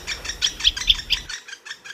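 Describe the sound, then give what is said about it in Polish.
A toy plays a recorded call of the bullfinch, a bird with a red belly: a steady run of about nine short, high chirps, with a low rumble underneath during the first half that then drops away. “Tego ptaka jeszcze nie dorobiłem się maskotki, to jest gil taki z czerwonym brzuszkiem, a tego ptaka widzieliśmy, on wam jeszcze raz tutaj wyda dźwięk.”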